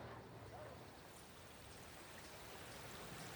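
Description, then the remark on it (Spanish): Steady, continuous rush of flowing water from a stream in a park, filling the background at a fairly low, even level with no breaks. “Aquí, viendo correr el agua y escuchando a los pájaros, mi cabeza encuentra un poco más de calma y sosiego.”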